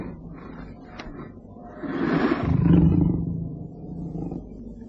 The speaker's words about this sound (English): They picked their way down to the bottom of the hill, and as they once again rested, the leopard, disturbed by the man scent, coughed angrily.